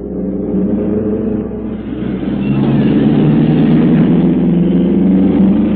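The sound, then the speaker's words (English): Race car engines rumble steadily as new cars roll onto the track at Indianapolis for auto racing, a loud, continuous low drone with a throaty hum that swells slightly partway through, and no voices. “Like children taking first steps, new cars roll onto the track.”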